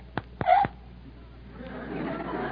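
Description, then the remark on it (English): A baby boy who has just finished a bottle lets out a short, soft burp while being burped, right after a couple of quick hiccup-like sounds, brief, then a low, quiet murmur takes over. “Burp him? What do I do? Like this? Harder. He won't break.”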